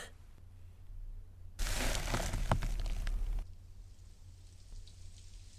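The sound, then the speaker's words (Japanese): A sudden burst of rain hisses and patters loudly for about two seconds over a low hum, then fades to a faint, steady wash. No voices. “雨だ。”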